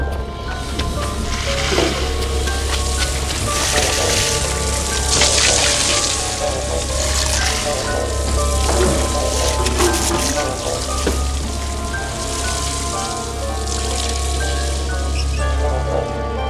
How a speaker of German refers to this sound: Holt die Schläuche! Feuer! Der Wasserhydrant! Schnell! Schließt die Schläuche an! Schneller! Der Wasserhydrant! Der muss sofort löschen! Schließt die Schläuche an den Hydrant! Schnell! Jetzt! Wasser, marsch!